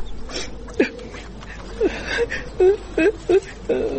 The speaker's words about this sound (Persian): چی گپ شده؟ چرا گریه میکنی؟ خاله جان حالا چرا گریان میکنی؟ خیرت خوب باشه.